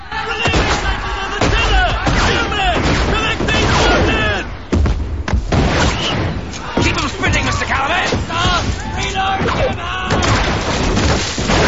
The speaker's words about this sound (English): The surprise begins its counter-attack, and the two ships exchange cannon fire through the smoke. Another cannon hits the surprise, splintering the rigging and sending men flying across the deck.